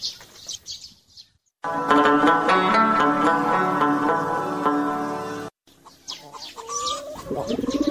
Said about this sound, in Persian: چرا ای تو غمبار میزنی او کبوتر جان؟ شاید در دلت بگویی که کاش که بجای خیالی میبودم که در درخت گاز میخوردم، اما ما باز در دلم میگم که ای کاش مام مثل تو بال پر میداشتم و پرواز میکدم.